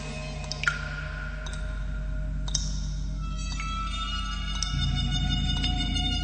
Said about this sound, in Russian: Где-то капает вода.